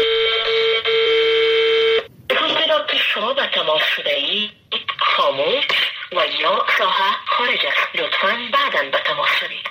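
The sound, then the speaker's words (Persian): A steady telephone tone hums for about two seconds, then a recorded woman's voice message plays saying the phone is switched off, thin and filtered as if heard over a phone line. These are calls to ministers and officials of Ashraf Ghani's government in Afghanistan. “این روزها تلفن‌های تماس با وزرا، مسئولان و مشاوران و معاونان دولت اشرف غنی در افغانستان یا خاموش است یا بوق ممتد می‌خورد.”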